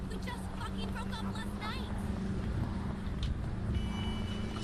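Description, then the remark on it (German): A steady low rumble of traffic, with cars driving past, mixed with faint background voices and a few brief higher-pitched tones. “Ich höre überall Autos, aber ich sehe keine.”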